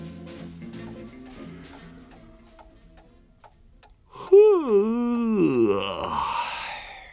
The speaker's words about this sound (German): kratzte sich an derselbigen und gähnte laut vor sich hin.